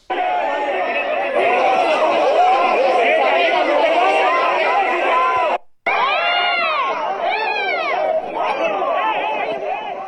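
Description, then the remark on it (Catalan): Dense crowd commotion with many overlapping shouts and yells, loud and continuous, cut by a brief sudden gap before the frantic shouting and high-pitched cries resume as the Policía Nacional charge people demonstrating against the presence of the king. “Si li pareix, anem a escoltar una d'aquests moments en què la policia feia aquestes càrregues.”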